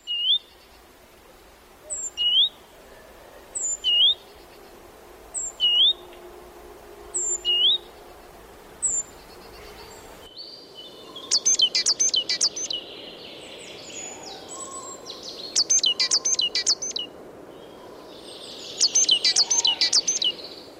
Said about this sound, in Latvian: Es nepateikšu, cik tieši dziesmas ir tādam zinošam lielā zīlītes tēviņam, bet tas repertoārs ir pietiekami plašs.